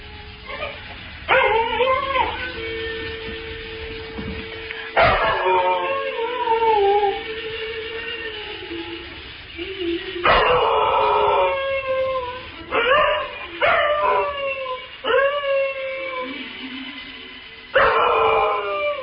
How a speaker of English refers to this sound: I guarantee my dog will sing. I guarantee.